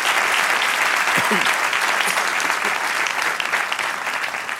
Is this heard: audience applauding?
yes